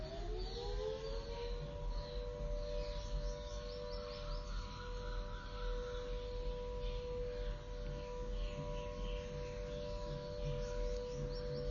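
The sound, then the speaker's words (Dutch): A steady dam warning siren wails continuously, its tone rising at the start and then holding a long sustained pitch, over faint outdoor ambience with occasional bird chirps. It sounds when something is changed at the dam on the river, here because another sluice is being opened. “Deze sirene is een sirene die afgaat als ze iets in de dam, in de rivier veranderen.”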